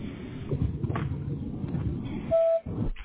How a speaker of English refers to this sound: Hi, you've reached Hayden Home Improvement. Nobody's available to answer your call at the moment, but please leave us a message after the tone.